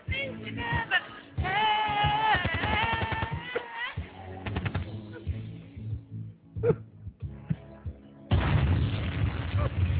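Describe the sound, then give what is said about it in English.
Loud gunshot sound effects, played during a karaoke song, ring out in sharp bursts, mixed with vocal sounds and ending in a harsh wash of noise. “Or a gunshot. Do you have any gunshots? That would work as well.”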